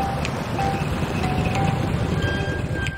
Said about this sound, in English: Later, Brian drives the truck into town.